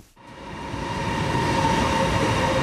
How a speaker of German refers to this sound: Ein Zug fährt ein am Pekinger Südbahnhof. Wie fast immer pünktlich.